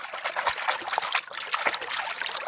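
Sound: water trickling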